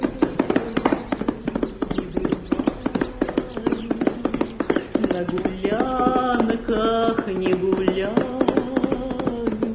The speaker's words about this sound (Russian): Я толкнул лошадь под бока и поехал от него прочь.